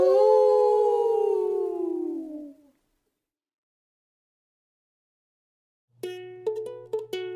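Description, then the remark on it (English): A person imitates a dog's howl, one long falling harmonic cry lasting a few seconds, then silence before unrelated music starts. “Woof, woof, howl!”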